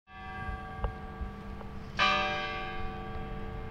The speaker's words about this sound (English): The historic courthouse in Adel, Iowa, 30 minutes west of Des Moines, chimes the hour from a building bursting at its seams.